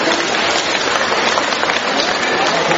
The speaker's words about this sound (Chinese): 让我们用掌声感谢慈悲的卢金红台长。